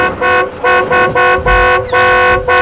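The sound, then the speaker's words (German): A car horn honks loudly from a car driving alongside a police patrol car, in a rapid string of about six short blasts, each a bright, buzzy tone with only brief gaps between them. “Und hupe, hupe.”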